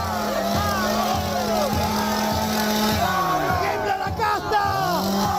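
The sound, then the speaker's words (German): A chainsaw, pulled out and revved by Javier Milei as part of his show in Argentina, roars in a steady, buzzing drone that pulses in regular revs, while a large crowd of his supporters yells, whoops and cheers loudly over it. “Der Dollarregen gehört zur Show, genauso wie die Motorsäge, die Milei nun zückt und rühren lässt.”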